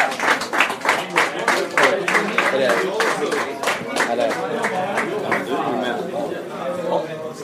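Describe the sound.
An audience applauds steadily for a guest being welcomed up, dense clapping lasting the whole stretch, with cheering and crowd voices mixed in underneath, loud before tapering slightly toward the end.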